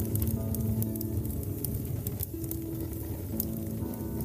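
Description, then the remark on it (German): A large campfire crackles steadily, with sharp irregular pops and snaps over a dense, roaring low rumble that stays fairly loud throughout. “Nachdem er sich beruhigt hat, stehst du vor einem riesigen Lagerfeuer.”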